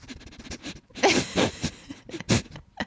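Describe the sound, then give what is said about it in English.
A voice imitates a boxer dog coming up to someone's face and sniffing, with a run of quick, breathy snuffs and a few louder huffs in an uneven rhythm, fairly loud. “But how he would like sniff, like he would come up to your like face and go.”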